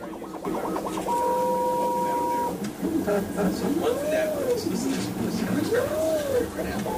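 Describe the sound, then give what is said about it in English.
A 3D printer at NASA's facility in Fairmont prints an altimeter mount, running with a steady electronic whine, then motor tones glide up and down in pitch as it moves, over a constant mechanical hum. “It's a three-dimensional printer housed at the National Aeronautics and Space Administration's facility in Fairmont.”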